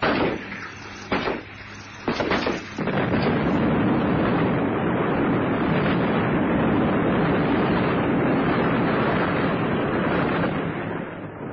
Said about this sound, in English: Get your head down! There are bits flying all over the place. It was an appalling sight. The helicopter exploded in a black ball of flame, and what was left crashed into the jungle for hundreds of yards all around.